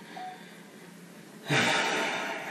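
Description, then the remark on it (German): A mobile phone gives one short, faint electronic beep near the start, then a louder breathy, hissing rustle fills the rest of the moment. “Haben wir nicht die Handys aus? Genau, oder zumindest auch nicht stören, oder ich muss es dir gleich wegschmeißen.”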